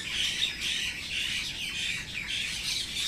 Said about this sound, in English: Birds are very excited about what I just said.